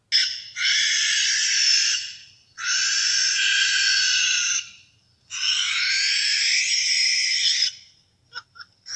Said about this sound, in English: In case you're wondering, this is what a barn owl sounds like when it's screeching.